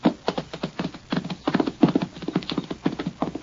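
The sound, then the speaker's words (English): Horse hooves clip-clop in a steady, quick rhythm for several seconds, the hard knocks clear, with no voices over them. “Give me that horse.”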